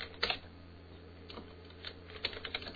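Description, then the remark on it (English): Quiet typing on a computer keyboard in short irregular bursts of clicks, a few key taps clustered near the start and more toward the end, heard alone with no voices. “No, I'm typing here.”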